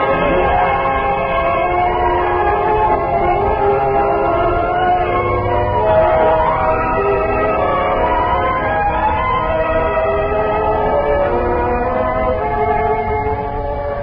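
A train rumbles steadily along while a long, wavering whistle sounds over the top, loud, filling the whole stretch with continuous rail noise and no voices.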